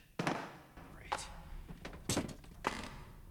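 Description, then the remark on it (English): In a dark photo lab, a man drops a torch that doesn't work onto a surface with a sharp thunk, followed by a few more scattered knocks and clatters over several seconds, moderately loud. “It doesn't work either, so he drops it.”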